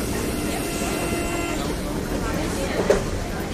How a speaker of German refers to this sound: Aufgepasst, ihr zwei! Der Zug bremst! Der nächste Halt ist Schloss Versailles.